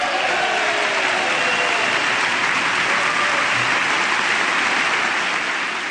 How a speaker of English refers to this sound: And loud cheers there for both of those senators, and no doubt, especially for Senator Kennedy